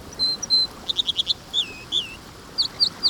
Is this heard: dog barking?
no